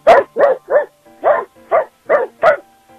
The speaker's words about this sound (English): do 7 barks.